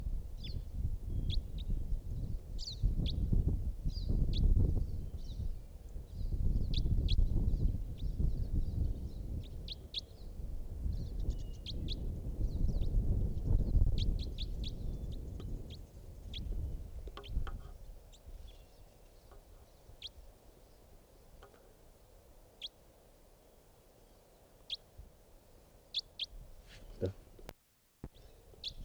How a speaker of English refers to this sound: Recording, I think that type 4 might be coming back. It's a type wild bird in the distance. Wild bird.